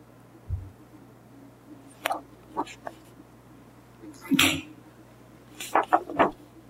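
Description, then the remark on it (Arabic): A single sharp, explosive sneeze bursts out partway through, fairly loud, set against a quiet background with a few scattered soft clicks and rustles around it. “رحمك الله.”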